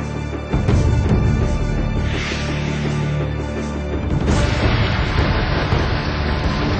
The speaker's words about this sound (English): Severe storms batter southeast Queensland, Australia. Fierce thunderstorms packed with heavy rain, hail, and wind lashed southeast Queensland on Saturday, October 15th, damaging homes and businesses